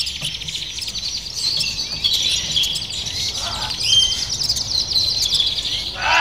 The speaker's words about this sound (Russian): Так вот, это огромное богатство. Птичьи голоса, птичьи пения – это огромное музыкальное и музыкально-психологическое, и музыкально-оздоровительное богатство.